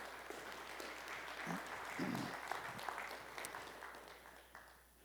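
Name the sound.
audience applauding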